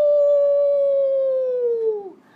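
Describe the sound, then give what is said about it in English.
A single long, steady howl sung by a human voice imitating a wolf, held for about two seconds before sliding down in pitch and fading out. It is loud and alone. “Yeah, it's a wolf.”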